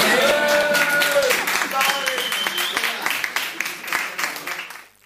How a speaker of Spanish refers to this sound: Vinga, un fort aplaudiment per la bandereta.